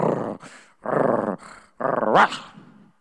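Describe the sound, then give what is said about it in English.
A voice imitates the breathy growl of a dog named Max, which barks at nothing at night, in three rough bursts, the last rising into a short whining yelp before fading out. “And he breathed growls, you know.”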